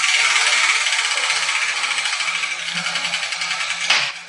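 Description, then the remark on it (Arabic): A hand-turned prize wheel on a children's program gives a steady, dense rattling clatter as it spins, slowly easing off, then a brief louder knock near the end as a new ball drops out. “وقد سقطت كرة جديدة من الدولاب.”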